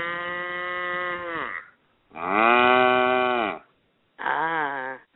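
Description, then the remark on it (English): A person imitates a cow as the punchline of an interrupting-cow knock-knock joke, giving three loud, drawn-out moos, each a second or more long, separated by short pauses, with the last one a bit shorter. “I acted like a cow that was interrupting you.”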